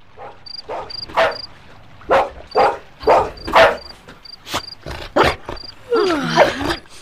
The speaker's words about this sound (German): Warum bellst du?